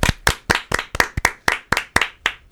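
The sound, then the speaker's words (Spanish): Steady hand clapping, about a dozen sharp, bright claps in an even, brisk rhythm, fairly loud and with no voices over them, given as birthday applause on the Club Atlético radio program on Uniradio. “Un aplauso también.”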